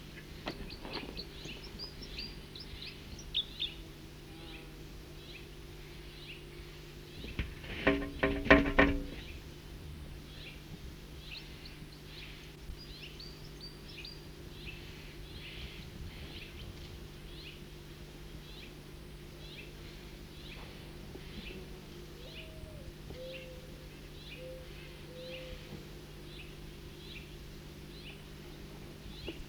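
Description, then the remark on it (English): A short flight call of the bird that had been singing stands out among scattered thin, high chirps, with a brief louder burst partway through over a steady low hum. No one speaks. “That was a flight call of the bird that was singing.”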